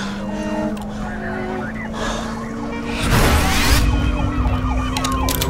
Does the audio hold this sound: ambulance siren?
yes